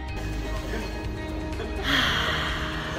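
Steady outdoor cafe ambience with a low background rumble and murmur, then a louder hissing wash of noise swells up partway through and continues to the end.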